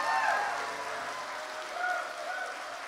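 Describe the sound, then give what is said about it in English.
An audience applauds steadily for the graduates, a dense wash of many hands clapping at once, with a few brief voices or cheers rising over it. “Let's give all the graduates one more round of applause.”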